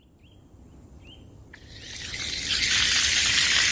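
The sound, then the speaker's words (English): Garden ambience at the New Paltz Community Gardens in New Paltz, New York, on a hot 90-degree summer afternoon, 100 feet from the Wallkill Riverbank: a few short bird chirps early on, then a steady high insect buzz swells and fills the air, with no voices. “It's a 90-degree afternoon in New Paltz, New York. The voles, the toads, and the gardeners are feeling the heat.”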